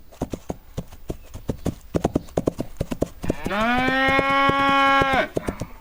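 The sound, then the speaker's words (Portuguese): Rapid hoofbeats of an angry cow, its tail tied in a knot, pound in a steady galloping rhythm as it runs after a girl, then a loud, drawn-out moo bellows for about two seconds before the hooves resume briefly. No one speaks. “Mas a vaca não gostou é nada e saiu correndo atrás dela.”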